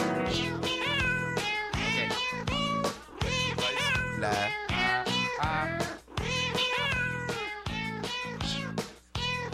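A cat meows loudly and insistently, a rapid string of drawn-out, wavering calls repeating about once a second with barely a pause, sometimes rising into a yowl. No one speaks.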